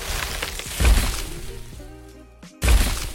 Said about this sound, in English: The T-Rex sounds in Jurassic Park are some of the greatest Foley triumphs of all time. Suitably, its massive footsteps are actually falling redwood trees.